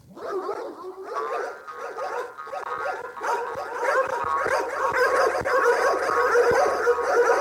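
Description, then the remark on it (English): Pixie, a family dog, makes a steady stream of playful growls, yips and barks, with a few sharp thumps mixed in as she romps and jumps around; nobody speaks. “She's Pixie, and she's our family dog.”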